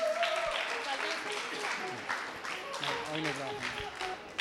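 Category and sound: crowd, applause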